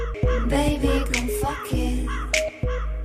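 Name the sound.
raven croaking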